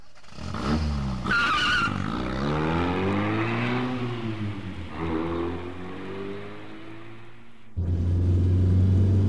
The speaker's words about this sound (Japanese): 逃げるように車に乗ると思いっきりアクセルを踏みました。